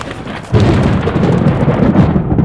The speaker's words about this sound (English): It rained for 40 days and 40 nights.